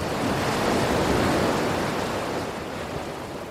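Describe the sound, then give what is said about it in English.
Ocean surf washes steadily onto the shore, a broad, loud rush of water that swells up around the legs of people standing in it and then slowly eases back, with no voices present. “The water rushes forward and gathers around our legs and like comes up to my thighs and your shins.”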